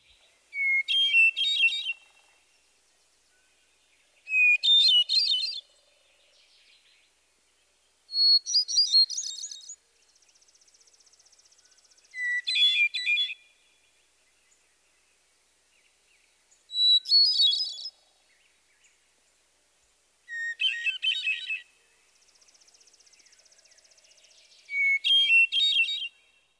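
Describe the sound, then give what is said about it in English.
A hermit thrush sings alone in quiet surroundings, repeating a clear, flute-like phrase about seven times, each opening on a steady held note before breaking into rising, ethereal tremolo notes, with pauses between. “The Hermit Thrush's song is another beautiful vocalization. Its ethereal flute-like melody is best recognized by the long, relatively low introductory note.”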